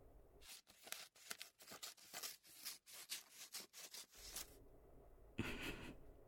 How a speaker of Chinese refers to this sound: 哎，剪刀呢？啊，剪刀在这儿。快点，别动，不然等下我的剪刀剪伤你的胸口就不好了。